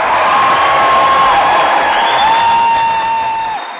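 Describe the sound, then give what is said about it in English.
A loud, sustained roar of supporters cheering for Dennis Kucinich as he announces his run for President of the United States fills a room at Cleveland City Hall, with whoops and piercing whistles cutting through before the noise begins to fade. “25 years ago, the thought of Kucinich being drowned out in this room by cheering supporters would be hard to imagine.”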